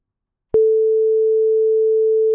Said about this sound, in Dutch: En ik hoor een kiestoon.